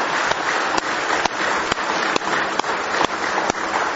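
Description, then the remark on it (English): A church audience on a Sunday morning claps hands in praise of God, in sustained, dense applause, many overlapping claps forming a steady rustling roar with occasional sharper individual claps standing out. No one speaks. “Give Him a big hand clap of praise if you love Him this morning.”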